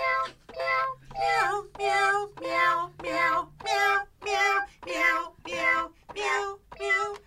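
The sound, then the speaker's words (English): A toy kitty cat keyboard plays a run of about eleven short meowing cat notes in a steady rhythm, each a clear, bright synthetic meow at a slightly different pitch, fairly loud. “We got this kitty cat keyboard”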